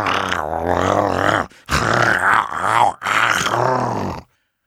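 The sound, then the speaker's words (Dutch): A voice imitates deep bear growls in three long, rumbling bursts separated by short pauses, loud, with no other talking. “Als u even hier wilt komen, zal ik ze voor u laten brommen.”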